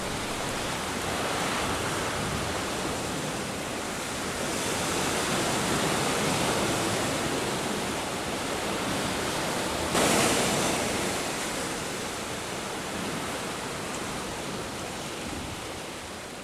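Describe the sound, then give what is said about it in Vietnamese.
Rough, stormy sea with waves crashing in a continuous loud roar that swells and eases, punctuated by one sharper crash partway through; no voices. “Nó quẩy đuôi một cái thật mạnh rồi lặn luôn xuống biển.”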